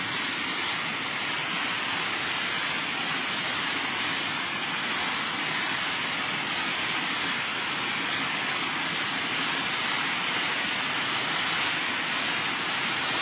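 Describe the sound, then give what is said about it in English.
A dense, steady roar of heavy rain pours without a break, a bright hissing wash that stays loud and even throughout, with no voices. “Now the rain becomes too heavy.”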